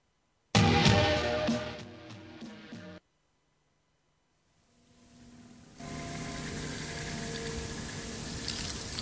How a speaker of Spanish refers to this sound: cómo una ola marina lo cubrirá todo, igual que una manta de agua metiéndose a toda pastilla corriente arriba con su sonido inconfundible de ola de playa. Es el macareo. La ola que escupe el océano por ríos y estuarios cuando se atraganta.